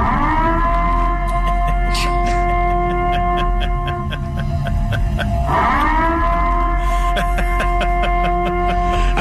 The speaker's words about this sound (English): But this is the siren that blasted right before curfew in this small Louisiana town.